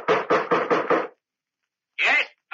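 Two men bang an old bronze door knocker five times in a quick, even rhythm on the front door of an ancient house at nightfall. It is loud, followed by silence and then a brief, muffled burst of sound.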